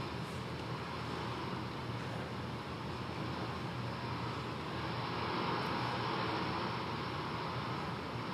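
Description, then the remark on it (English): A steady, loud roar of storm wind and churning waves on the Sea of Galilee fills the whole stretch, a dense unbroken wash of noise with no voices. “It's going to show what it's like to be in a storm on the Sea of Galilee.”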